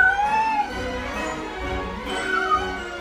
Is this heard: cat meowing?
yes